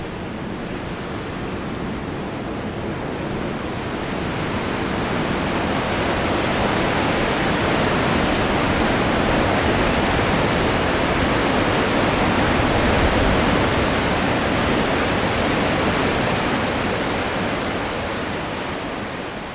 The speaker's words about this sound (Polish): Wtedy jest dużo wody i dużo szumu.